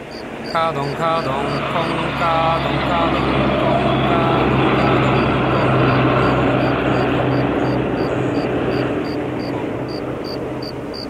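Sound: large truck driving past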